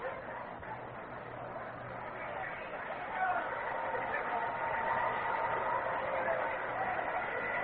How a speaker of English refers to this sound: Another capacity crowd on hand today.